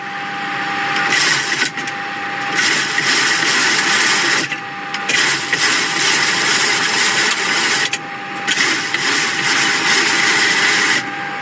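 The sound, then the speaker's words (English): A mechanical whirring from an aircraft stabilizer trim wheel runs in loud, steady bursts with a faint tonal hum underneath, pausing briefly a few times before spinning up again. No one speaks. The wheel automatically controls the horizontal stabilizer at the plane's tail. “This wheel mechanism, it's part of of course, it's part of a system that's in the plane.”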